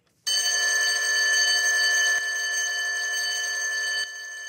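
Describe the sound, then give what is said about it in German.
A school bell rings continuously with a bright, steady metallic clang for the break between lessons in a school closed for in-person teaching during Corona, holding for several seconds with slight drops in loudness partway through. No voices are present. “Die Klingel läutet weiter für die Pausen zwischen den Unterrichtsstunden, aber kein Lärm erfüllt die Schulgebäude.”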